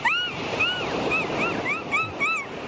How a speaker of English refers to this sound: Hold on. Let me get some ocean sounds here if we have it. Sit down for this one.